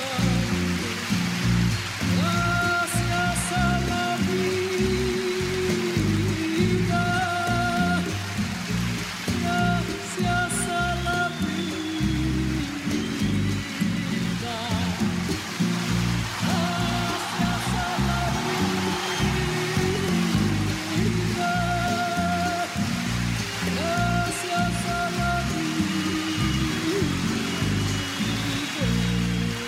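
A large audience claps steadily in a dense, unbroken wash of applause that holds an even loudness for about half a minute, with faint musical tones lingering underneath.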